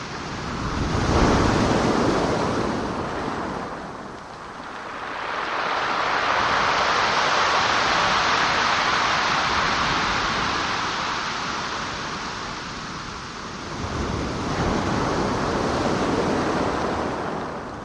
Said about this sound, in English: Finally, the river meets the sea. The Pacific Ocean. Delivering gravel and pebbles. The waves, like sandpaper, further reshaping the land.